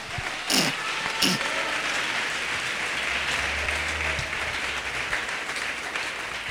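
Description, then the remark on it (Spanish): A church audience, asked during a sermon to applaud God, claps in a steady, dense wash of applause lasting several seconds, with a couple of sharper bursts near the start and no voices over it. “Alaban al Señor, hermano, denle un aplauso a su Dios.”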